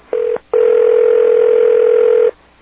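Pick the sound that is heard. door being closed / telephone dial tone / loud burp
telephone dial tone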